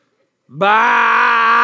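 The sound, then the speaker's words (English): After a brief silence, a person lets out one loud, drawn-out vocal bleat, imitating a sheep. The sound swoops up at the start and then holds steady and strained. “she hopped up on the fence and said, unironically, with a complete straight face to all the kids who were there, like her siblings, her cousins, and complete strangers, listen, you guys, I'm the only one who knows how to speak sheep, okay?”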